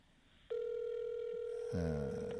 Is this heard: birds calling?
no